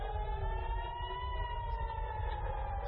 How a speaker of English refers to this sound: With sirens blaring and air defenses intercepting the missiles, alarms across Israel sent people scrambling for their air raid shelters.